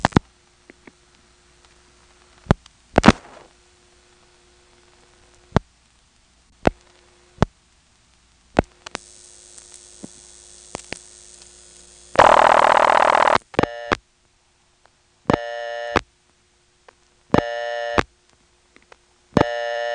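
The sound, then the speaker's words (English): On an intra-office supervision test call, sharp mechanical clicks of step-by-step telephone switching sound at irregular intervals on the last few digits, followed by a brief loud burst of static, then a buzzing ringback tone repeating about every two seconds. “On this call, you can hear normal step noises, but not until the last few digits.”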